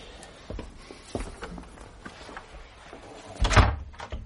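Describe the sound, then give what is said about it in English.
A library door opens with a few soft clicks and creaks, then swings shut with a solid, fairly loud thud near the end, with no talking. “Over there, through that door, into the library.”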